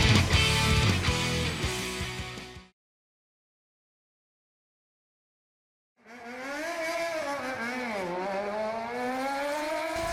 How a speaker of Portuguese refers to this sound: Pera aí que passou uma moto aqui, puta que pariu. Deu pra ouvir a correia.